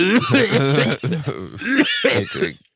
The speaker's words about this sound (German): Hust du jetzt echt oder was?